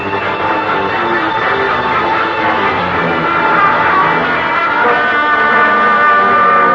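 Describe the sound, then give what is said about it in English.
The whistle of the night milk train to Le Havre, as it approaches, blows one long, unbroken chord of several steady tones, loud throughout and swelling slightly toward the end, with no voices. “The only one which comes to here at this time of night. The mill train to Le Havre.”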